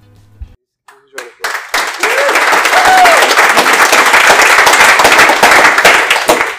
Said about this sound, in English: Well, it was the worst lightning talk in history. I would have saved that applause to the end so you can make a judgment.